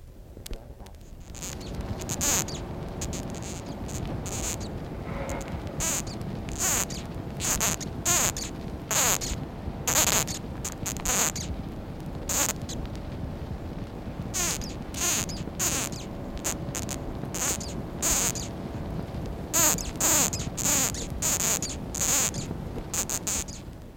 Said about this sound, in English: The death's head hawk moth is able to utter a squeak which might frighten a bird about to capture it. The squeak is made by the moth blowing air from inside down along the tongue.